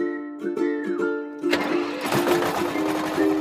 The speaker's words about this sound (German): Und schon läuft der Motor wieder.